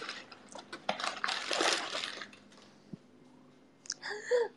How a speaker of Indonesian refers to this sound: Aus cok, aku minum.